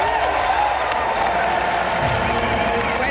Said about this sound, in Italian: Applausi per Trump, che ha recitato così: solennemente giuro che fedelmente eseguirò il compito di Presidente degli Stati Uniti d'America e farò del mio meglio per preservare, proteggere e difendere la Costituzione degli Stati Uniti.